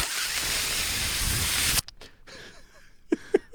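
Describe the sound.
A voice imitates a Dyson full-body air dryer with a loud, steady, breathy whoosh lasting nearly two seconds, then stops abruptly, leaving a few faint clicks and short soft vocal bursts.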